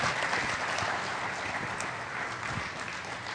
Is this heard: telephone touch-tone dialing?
no